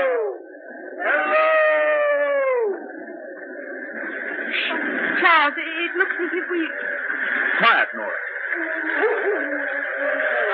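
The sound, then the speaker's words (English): A dog howls in long, wavering cries that rise and fall, heard over a steady radio-like hum, while a man and a woman speak briefly. “Now, where that dog is, there must be shelter.”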